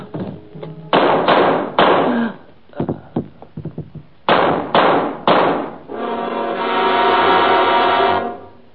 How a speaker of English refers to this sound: I hear a gunfire.